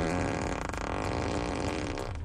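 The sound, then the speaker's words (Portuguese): A long, loud, buzzy fart sound effect rumbles continuously for about two seconds, played electronically through a car's speakers as a hidden easter-egg feature where you can choose which seat it seems to come from, with a low, flapping texture and no talking. “um easter egg aqui, uma surpresinha, que dá para você escolher em qual dos bancos ele vai fazer um barulho de pum.”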